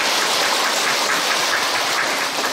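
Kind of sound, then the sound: crowd, applause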